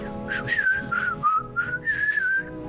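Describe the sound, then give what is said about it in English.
Someone whistles a short, wavering melody, the pitch sliding and stepping between a few notes over about three seconds, with a low background hum beneath it. “Whistle while you work.”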